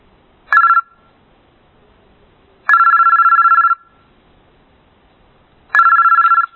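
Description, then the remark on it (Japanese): A telephone rings with electronic tonal bursts, a short chirp followed by two longer ringing pulses about a second each, clear with silence between them and no voices, as a caller claiming to be a company lawyer phones. “被害者は代金未納をしているという心当たりはなかったのですが、ついうっかり忘れていることもあるかもしれないと考え、弁護士からの電話を待ちました。”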